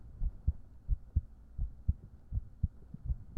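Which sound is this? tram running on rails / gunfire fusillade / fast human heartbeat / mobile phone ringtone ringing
fast human heartbeat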